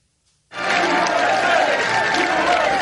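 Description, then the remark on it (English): After a brief silence, a large crowd in Lithuania suddenly erupts into loud, sustained roaring and cheering during a speech by President Biden, a dense wall of voices and applause that holds steady for a few seconds. “told a roaring crowd in Lithuania that NATO's commitment to Ukraine will not weaken.”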